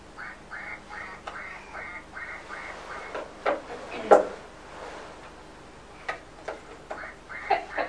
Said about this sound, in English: Shall we see if this one makes the duck quack? Yes.